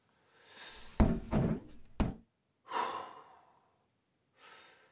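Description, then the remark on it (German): A door thumps shut twice in quick succession as someone steps out of the house, amid heavy breathing and exhaled sighs that continue afterward, with no one talking. “Ich gehe inzwischen kurz vor die Türe.”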